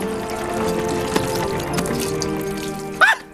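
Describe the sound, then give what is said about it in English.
A steady, gentle trickle of water from a bellows-pumped water wheel mechanism wets the soil around newly planted bean seeds in a hut, continuous under soft background music, ending with a brief vocal exclamation. “A trickle of water wets the soil around the planted seeds.”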